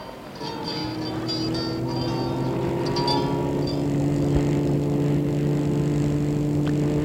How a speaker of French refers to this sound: Elle va vers une voiture de sport rouge. Elle ouvre la portière. Entrez. Il entre. Elle aussi entre. Et la voiture démarre.